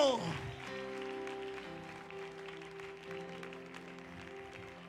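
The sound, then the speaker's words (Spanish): An audience claps loudly in a dense, steady roar of applause, with sustained musical tones and crowd voices humming underneath throughout. “Necesito que usted aplauda, pero duro, durísimo.”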